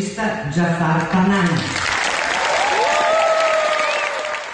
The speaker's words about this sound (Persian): سالن اصلی جشنواره فیلم ونیز به احترام آقای پناهی ایستاده به تشویق او پرداخت.